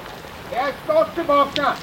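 Steady rain hisses in the background, a soft even wash of falling drops, while a person speaks clearly over it in the foreground.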